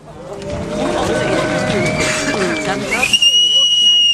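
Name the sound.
audience member whistling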